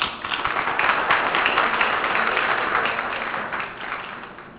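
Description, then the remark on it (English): An audience applauds three panelists at an evening program on yeshiva education, a dense, steady wash of many hands clapping that holds for several seconds before gradually thinning out toward the end. No one speaks over it. “I think all three of our panelists deserve a big round of applause.”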